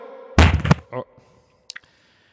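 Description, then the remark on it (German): A ball drops during a magic trick with a loud, heavy thud, followed by a shorter, softer bump as it settles, then two faint clicks in otherwise quiet surroundings. “weiß jetzt auch nicht, warum die runtergefallen ist.”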